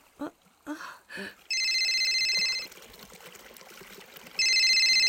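A telephone, lying in a waistcoat pocket that has fallen in a corner, rings in two loud, steady electronic bursts, each lasting over a second with a pause between, following a few brief splashy sounds at the start.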